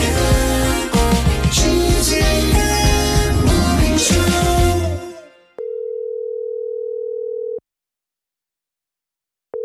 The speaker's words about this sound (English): answer your phone.